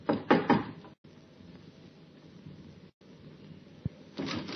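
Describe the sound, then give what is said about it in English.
Three quick, fairly loud knocks on the wooden door of a small flat in a good residential district, followed by a stretch of quiet room hiss, a single sharp click and a soft rustle at the end. “The urge to try out the key in his pocket was almost overwhelming. But instead, he knocked.”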